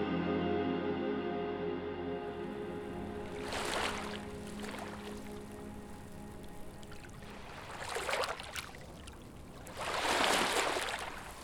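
Water sloshes and splashes in broad bursts, with three louder surges rising over a steady low tonal drone and a soft continuous wash, no voices present.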